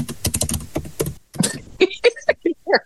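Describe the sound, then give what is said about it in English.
A rapid, emphatic burst of keyboard typing clatters for about a second, followed by a short pause and a string of brief, clipped tonal sounds and taps. “I like how you did the dramatic keyboard there, by the way.”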